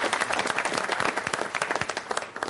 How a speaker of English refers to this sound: Firstly, I salute Colonel Kumar for all the work he did. The reconnaissance he did. That's what I said. He's one of our original heroes, I think. And I think we should have a round of applause.